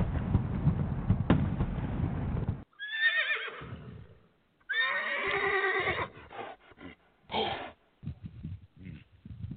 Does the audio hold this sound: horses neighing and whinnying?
yes